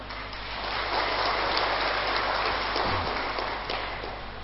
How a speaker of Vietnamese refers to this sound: Nếu vì thấy việc làm đó có thể khắc phục vượt qua được đó, thì hãy dâng cao tràng pháo tay để cam kết.